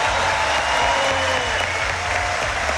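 An audience breaks into sustained applause, a dense, steady wash of clapping hands that stays loud and even throughout, with no speech over it. The applause is for Chile's police and armed forces.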